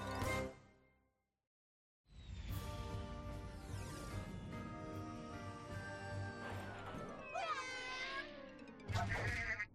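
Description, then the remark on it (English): A sheep bleats in a short burst, then after a brief silence launches into a long, loud stretch of wavering, quavering bleats over a busy, clattering background. “Oh my, what kind of bad, bad person would steal a sheep?”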